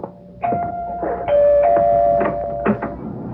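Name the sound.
doorbell ringing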